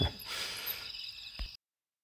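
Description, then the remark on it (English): Crickets chirp in a steady, unbroken drone at night in the bush, a thin high trill that holds evenly throughout, with a soft thump near the end and no voices. “The night is quiet, apart from the crickets. They just evenly carry on with their chirping and tweeting.”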